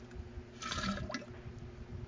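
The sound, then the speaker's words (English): A cat urinating, heard as a steady trickle of liquid splashing for about two seconds, with a hissy, gurgling texture that swells briefly near the middle. No voices are heard. “You don't hear this pee?”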